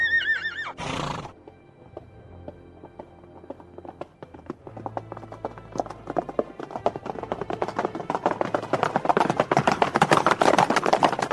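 A horse gives a short, shrill whinny, then hooves start clopping and build into a fast gallop, the rhythmic beats growing louder and denser.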